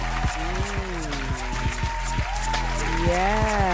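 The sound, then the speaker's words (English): A crowd claps steadily and densely for several seconds as a woman guest is called up to join the host, with loud individual claps standing out and voices whooping and cheering over the applause. “come here and let's have some applause.”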